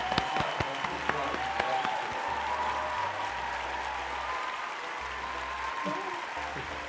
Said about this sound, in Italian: Quindi, un applauso virtuale. Un applauso virtuale.